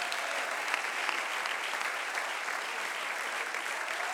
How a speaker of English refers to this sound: Clap your hands and give God praise. Aplaude y manda alabanzas.